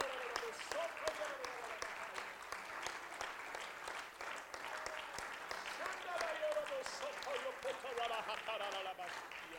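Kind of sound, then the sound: crowd, audience clapping hands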